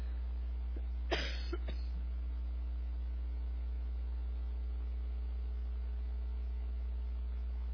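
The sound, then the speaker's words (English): A short cough, followed by a softer second one, breaks the quiet of a room. A steady low electrical hum runs underneath throughout, and no one speaks. “Now I'm making everybody cough.”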